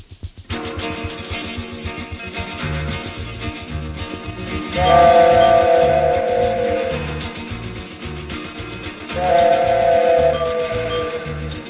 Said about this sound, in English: Unless you're over 40, you've probably never seen a real coal-fired steam engine pulling a train. You don't know what you've missed.